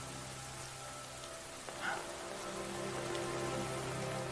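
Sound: rain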